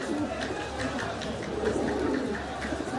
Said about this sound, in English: So this is a carrier pigeon, its base is here, so wherever you took this pigeon, all over Egypt, it will make its way back to this guy.